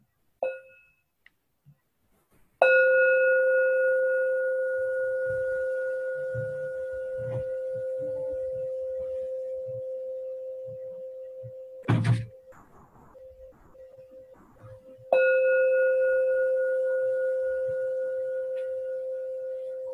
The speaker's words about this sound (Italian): Cari amici, ascoltiamo tre suoni di campana che danno inizio alla nostra meditazione.